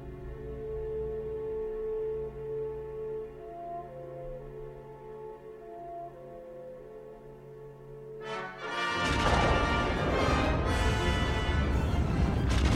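A steady low humming drone plays for several seconds, then a sudden loud, roaring explosion, the Death Star being destroyed, bursts in and keeps rumbling and crackling to the end.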